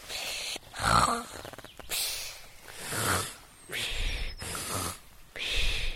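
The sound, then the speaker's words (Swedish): A voice imitates snoring with a run of loud, rhythmic snorts and breathy rasps, about five repeating inhale-exhale cycles, with no words spoken. “Kryp dit eller snarka dig fram.”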